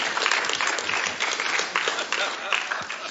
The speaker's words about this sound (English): Now, the last time I did an introduction like that, I flippin' got a huge round of applause. What's wrong with you people?